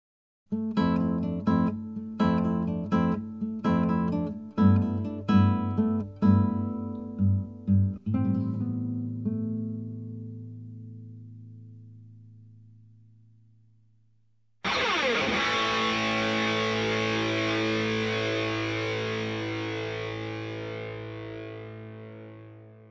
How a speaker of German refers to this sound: Was kannst du spielen? Ich spiele Gitarre. Klassische Gitarre oder E-Gitarre? Beide. Hör mal zu.